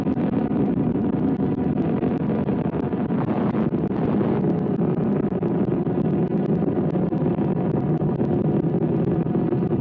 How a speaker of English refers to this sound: As you can hear, the rocket's roar is at its peak as the sound is swept across our NBC News Center by a breeze